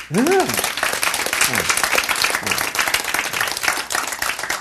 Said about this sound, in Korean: 박수!